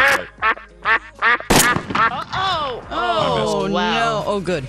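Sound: duck quacking sound effect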